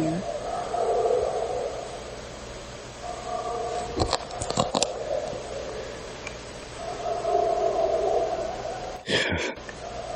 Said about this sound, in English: That's no dog. It's a bear. He's a bear.